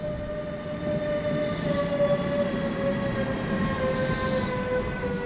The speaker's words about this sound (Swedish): Kommer tåg.